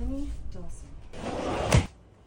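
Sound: door being opened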